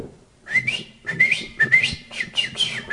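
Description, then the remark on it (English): A person whistles a rapid, warbling birdlike melody in short bursts, imitating a canary's song to train a male canary kept alone in a dark cage. High trills and quick chirping slides, with no talking. “And so Grandpa took this male canary and said, we're going to train this canary. Put it in the cage. Grandpa began going like this.”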